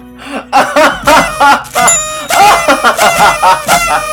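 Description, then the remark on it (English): A crowd of party whistles blowing at once for a 30th birthday: loud, overlapping, buzzy toots that rise and fall in pitch in quick repeated bursts, with no one talking. “Hear all those party whistles.”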